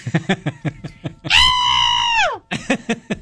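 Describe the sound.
A loud, sustained scream of about a second rises sharply and trails off downward, framed by quick, breathy laughter-like bursts before and after.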